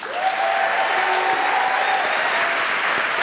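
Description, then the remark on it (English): A crowd bursts into sustained applause welcoming Nick Kroll on Wait Wait Don't Tell Me, a dense, even wash of clapping hands that holds steady at full volume for several seconds, with a faint cheer threading through it. “I'm holding for applause.”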